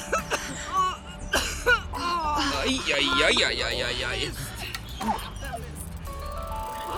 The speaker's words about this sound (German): Auf einem Fahrrad nähert sich eine junge Frau mit Kapuzenpullover und Turnschuhen. An der Bank hält sie an und sucht hektisch den Boden ab. Hört ihr das? Sie hat Husten. Ist ja kaum zu überhören.